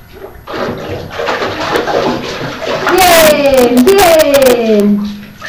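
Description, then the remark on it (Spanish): Water splashes and sloshes in a bathtub, with a burst of sharper splashes midway. A child's high voice squeals briefly over the splashing near the end. “¡No te bebas el agua del bañete!”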